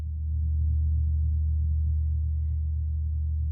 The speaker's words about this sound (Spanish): Vamos a escuchar esto, un gong con maza.